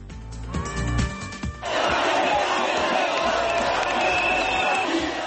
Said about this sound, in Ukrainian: Такі вигуки лунають сьогодні на вулицях Кишинева.